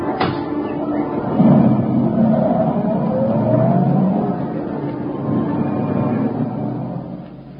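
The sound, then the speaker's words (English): A taxi cab pulls off from the street outside a theater and drives away, its engine revving in a steady loud rumble with rising whines as it picks up speed, easing slightly at the very end. “Here's your cab”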